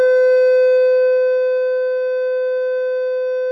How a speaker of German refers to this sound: Die Alarmsirenen werden getestet. Jeden Tag, obwohl der Reaktor nie in Betrieb war. Ein paar von uns halten sich die Ohren zu.